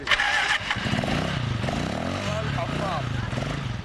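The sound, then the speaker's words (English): A motorcycle engine, ridden by guides who help families find graves in a huge desert cemetery, starts up and revs steadily, its loud, throaty drone rising and falling in pitch over a few seconds, with indistinct voices faintly mixed in. “It's so big and so chaotic, it takes guides on a motorcycle to help families locate their plot.”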